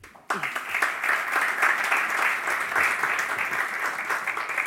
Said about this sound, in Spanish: Bueno, vamos a dar un caluroso aplauso